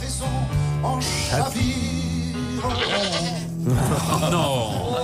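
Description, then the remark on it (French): A goat bleats repeatedly in wavering, quavering cries, loud, layered over a song with a singing voice and steady instrumental backing. “Qui a rajouté la chèvre ?”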